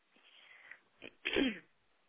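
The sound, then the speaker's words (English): A single throat clearing: a soft, breathy lead-in and a brief rasp, then one loud, harsh burst of sound that fades quickly, with no talking around it. “You always gotta clear your throat.”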